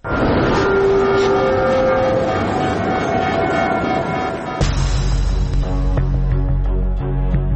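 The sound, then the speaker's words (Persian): An airplane climbing after takeoff: a loud, steady engine roar with a high whine rising in pitch, then a deep, heavy rumble takes over halfway through and carries on to the end. “و بله، همه اینها به کنار، اون اتفاق لعنتی به کنار، صعود هواپیما.”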